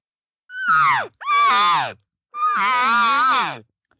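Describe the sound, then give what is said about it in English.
Three loud, drawn-out elk calls made by a person calling elk in, each a high, nasal mew that wavers and slides downward in pitch, separated by brief silences, with no talking. “So see, this is how we're calling these elk in.”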